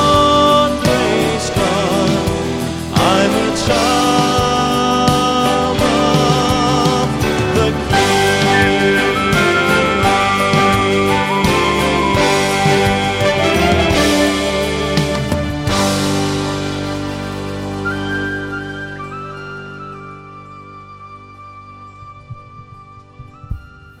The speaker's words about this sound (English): Was that you on the tin whistle? No.